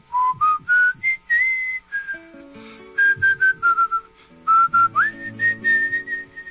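A person whistles a folk melody in clear, sustained notes that glide up and down between phrases, over soft, low, sustained instrumental accompaniment. No one speaks.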